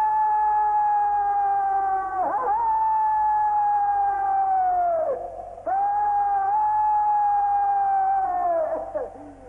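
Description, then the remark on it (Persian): A wolf howls in long, steady, drawn-out tones, three sustained howls with brief breaks between them, loud with no voices or other sounds. “دستور میدهم گرگ قطع شود.”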